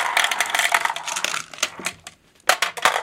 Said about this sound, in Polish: O, mamy tutaj całe mnóstwo takich szklanych kuleczek w różnych kolorach. Wrzucamy te kuleczki do maszyny losującej. One spadają.